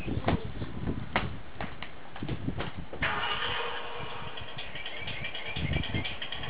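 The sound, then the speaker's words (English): A car engine cranks with a series of sharp clicks, then catches and settles into a steady running rumble that continues to the end, as the car drives off to the Batcave. “It's a drive. The car drive.”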